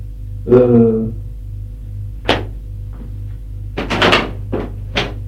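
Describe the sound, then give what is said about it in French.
A woman opens a door that creaks with a drawn-out, squeaky hinge groan, followed by several sharp wooden clunks and knocks from the latch and frame, against a low steady hum. “Elle ouvre une porte.”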